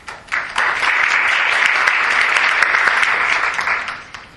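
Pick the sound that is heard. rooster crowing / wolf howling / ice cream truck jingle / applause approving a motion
applause approving a motion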